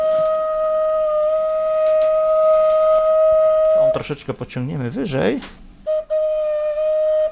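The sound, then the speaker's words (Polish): A single pipe of a pipe organ holds a steady, mid-pitched tone for about four seconds, stops while a man speaks briefly, then sounds the same sustained note again after its foot opening has been tapped slightly closed to let in less air and make it quieter. “właściwym instrumentem dla liturgii Kościoła katolickiego są organy piszczałkowe”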